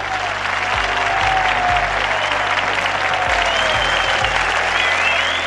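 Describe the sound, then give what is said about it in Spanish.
Steady, dense audience applause for the presenter of the Bici Inquieta project from Las Chuapas, Veracruz, a loud continuous wash of many hands clapping at once with no talking over it. “¡Un fuerte aplauso”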